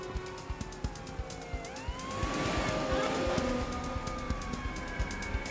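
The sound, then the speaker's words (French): A wailing siren rises and falls in pitch, growing louder partway through as it approaches over steady traffic rumble in Cincinnati, with a repeated clicking tick running throughout. “En entendant le bruit d'une sirène qui approchait, le voleur prit la fuite sans insister.”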